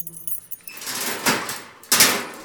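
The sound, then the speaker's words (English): Bright metallic jangling of keys that swells from about half a second, with a sharper clink near the end as a dungeon door is worked open; no one speaks. “Then let's change things. Just open the door.”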